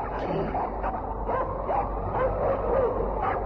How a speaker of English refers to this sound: Wolves again? No, it is dogs of Eskimo. Someone come.